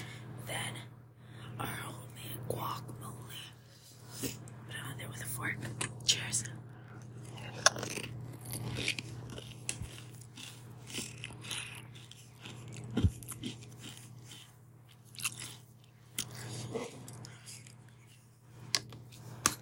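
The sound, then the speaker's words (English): Crunchy chewing of food topped with hot salsa, with repeated crisp bites and wet mouth sounds over a steady low hum, and faint whispering now and then. “Let's do one with both. First, the hot salsa.”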